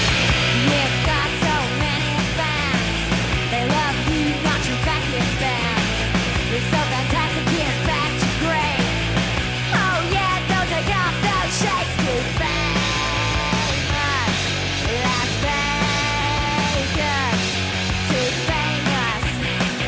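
A loud, dense rock song with distorted guitar and pounding drums driving steadily throughout, while a raw, shouting vocal wails and yells over the top.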